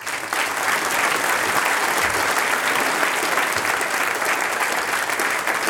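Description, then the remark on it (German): Steady applause from an audience at a Sänger- und Musikantentreffen stage, welcoming Mayor Josef Neuhold, fills the whole clip. It is a dense, even wash of many hands clapping at a constant loud level with no voices breaking through. “Und deshalb dürfen wir ihn mit einem großen Applaus auf unserer Sängern-Musikantentreffen-Bühne begrüßen.”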